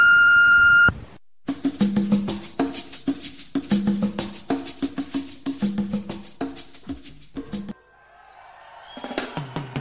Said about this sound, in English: Please listen to the message after the beep.